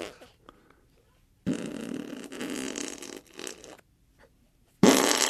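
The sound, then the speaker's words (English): Two loud, sputtering armpit farts made by hand by a grown man, the first a long wet buzz of about two seconds, the second a short burst after a pause, with brief quiet gaps around them. “It's a grown man doing armpit farts.”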